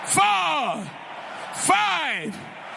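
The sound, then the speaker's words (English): Two loud, drawn-out shouts of glory to the Lord at a church, about a second apart, each rising then falling in pitch like a joyful cry, with a steady hum of background noise between them. “Give the Lord 7 shouts of glory.”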